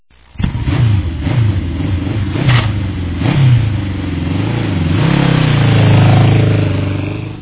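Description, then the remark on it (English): A newly received motorcycle is tried out on Christmas Day: its engine starts and revs in several quick bursts that rise and fall in pitch, then climbs into a long, steady, louder roar before easing off. It sounds loud. “Oh, look what I got. A motorcycle. I think I will try it out.”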